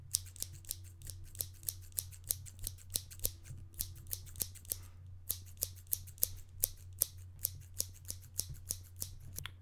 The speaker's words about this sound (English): I start with operating a pair of scissors close to the microphone.